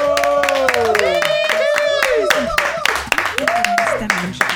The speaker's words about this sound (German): Dankeschön und guten Applaus!